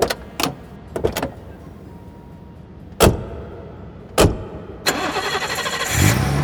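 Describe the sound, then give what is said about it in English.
Several sharp clunks and thumps, like car doors, then a BMW car engine in a station car park turns over and catches, settling into a steady running rumble that swells slightly at the end. No one speaks. “Her car was in the station car park. It was a BMW.”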